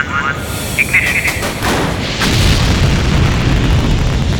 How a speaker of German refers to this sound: Unter ihnen knallte und zischte es gewaltig. Die ganze Maschine bebte und eine weiße Dampfwolke nebelte alles ein.